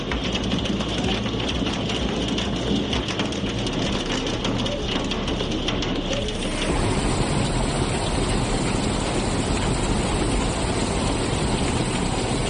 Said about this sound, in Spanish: Es el sonido del granizo y de la lluvia que ayer sorprendió a los alicantinos a mitad de tarde, acumulados muy importantes en menos de una hora en varios puntos, desde las 6:45 aproximadamente hasta antes de las 6:30.